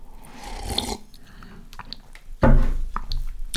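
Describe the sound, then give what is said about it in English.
Wet mouth sounds of someone sipping a drink: a soft slurp, a pause, then a louder gulping swallow with small liquid squishes. No one speaks. “And while we wait for that to decrypt, just gonna take a sip, actually.”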